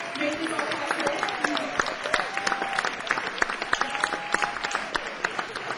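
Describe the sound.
An audience breaks into steady applause, many hands clapping in a dense, crackling wash that holds at an even loudness, with faint voices and a few whoops mixed underneath.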